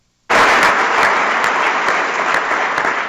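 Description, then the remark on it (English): A large crowd at the U.S. Conference of Mayors bursts into loud, sustained standing-ovation applause after a brief silence, dense clapping holding steady without pause, with no voices standing out. “The U.S. Conference of Mayors gave her a standing ovation. That's why you hear the sustained applause.”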